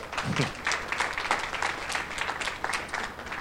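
A crowd of people claps steadily for a few seconds, a dense patter of many hands at moderate volume, with no speech over it, applauding someone present who became a father a few days ago, at an evening church gathering.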